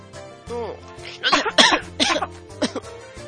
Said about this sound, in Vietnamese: Khi ho không nên quay vào bàn ăn, mà phải lấy tay che miệng.